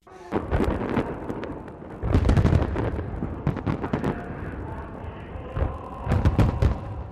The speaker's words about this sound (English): The celebration began Monday with a huge show of fireworks in the capital, Pyongyang.